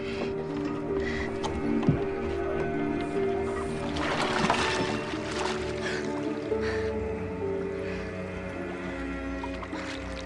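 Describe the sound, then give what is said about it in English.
Continuous watery splashing as a woman slips off an upturned boat and swims for the shore, with a heavier flurry of splashes about midway, over a steady low tonal hum that persists throughout. “She slips off the upturned boat into the water and begins swimming for the shore.”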